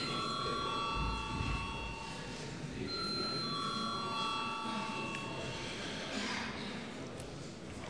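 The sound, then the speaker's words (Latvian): The electric bell of Latvia's parliament chamber, the Saeima, rings continuously with a bright, steady metallic tone over the murmur of a large room, where people talk quietly in the background. It is rung before a vote on sending a 2011 state budget amendment bill to committees. “Lūdzu zvanu.”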